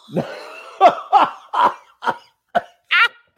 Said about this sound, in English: Do I have whooping cough? What was that? Oh my God. You have COVID for sure. You're riddled.